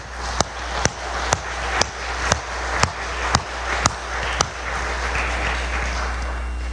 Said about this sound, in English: Could we just thank God now in a moment of applause and say thank you, God?